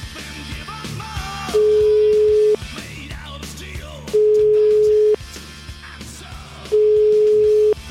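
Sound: telephone ringing tone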